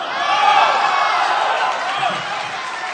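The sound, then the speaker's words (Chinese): A steady wash of audience applause, dense and crackling, holding at an even level for the full few seconds with a faint murmur of voices underneath. “您先别鼓掌”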